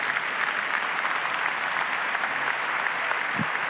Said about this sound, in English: A round of applause. A huge, huge round of applause.